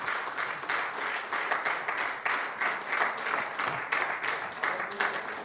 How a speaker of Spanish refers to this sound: Es más, denle un aplauso a Rey de Reyes, Señor del Señor.